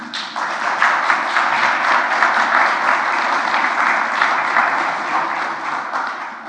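An audience applauds steadily for several seconds, a dense, even wash of many hands clapping at a constant loud level, with no voices standing out.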